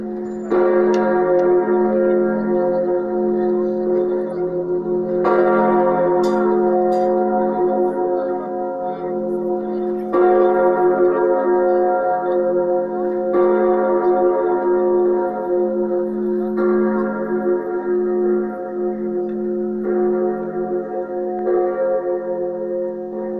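The bells of Notre-Dame Cathedral in Paris ring out loudly and continuously, their overlapping peals striking fresh every few seconds while the rich, sustained tones hum and blend between strikes. No one speaks.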